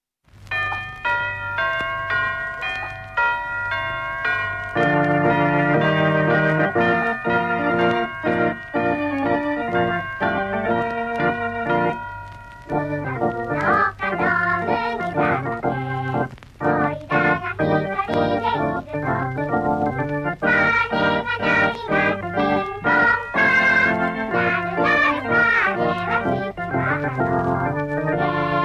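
Bright chiming bell tones ring out, then a full melodic orchestral tune takes over, loud and close, steady for about half a minute with a brief pause near the middle.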